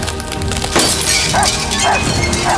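Glass shatters loudly in one sudden crashing burst, followed by a sustained spray of bright tinkling shards that keep ringing and scattering for a couple of seconds.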